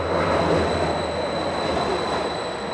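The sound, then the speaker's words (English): A St. Louis MetroLink light rail train rolls past at the Convention Center station downtown on a rainy morning with a loud, steady rumble, and a thin, sustained high-pitched wheel squeal rings above it the whole time. No one speaks. “On a recent rainy morning, Michael Anderegg was waiting at the Convention Center Metrolink station downtown to catch a train to Wellston, a few miles west.”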